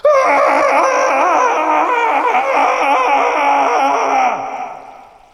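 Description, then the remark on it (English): A man lets out one long, loud, raging roar at a tree, his strained voice wavering for about four seconds before trailing off into quiet. “He turned his back on his first mate and roared at the tree.”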